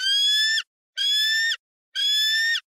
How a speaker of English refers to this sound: Baby bald eagle. There you go. It might be a baby, but it is a bald eagle.